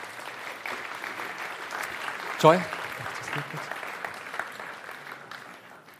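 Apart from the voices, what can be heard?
audience applause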